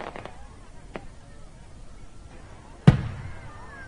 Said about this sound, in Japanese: こっちの方が花火、よく見えるよ。